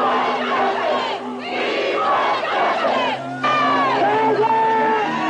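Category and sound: crowd, protesters shouting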